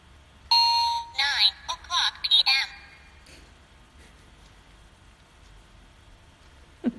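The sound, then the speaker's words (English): Sayo's clock chimes a quick run of bright, ringing tones lasting about two seconds, loud against a quiet background, then fades into soft low hum with a brief knock at the end. “This is Sayo's clock you just heard.”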